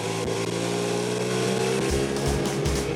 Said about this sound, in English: When he drove the bike out, I'd never seen the bike running before, so that was pretty special.